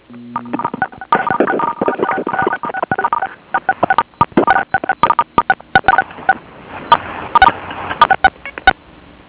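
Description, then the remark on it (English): Rapid, overlapping phone keypad tones fire off in dense irregular bursts as several people on a phone call press star six on their phones at once, loud, with no talking over them. “I think what we need to do is everybody press *6 on your phone.”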